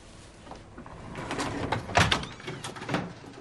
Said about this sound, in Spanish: El empleado del hotel golpea en la puerta de la habitación